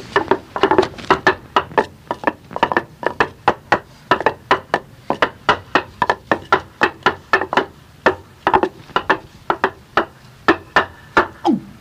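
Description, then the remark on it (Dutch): Wooden clogs clatter in a clog dance recorded in windy Kolderwolde: a steady, rapid run of sharp hollow clacks, some doubled, keeping a lively rhythm throughout with no voices. “We namen hierop de klompendans.”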